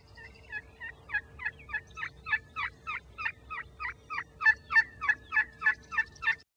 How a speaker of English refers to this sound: This is my favorite, I think. Second favorite. This is an assembly call to gather young turkeys or other members of the turkey clan.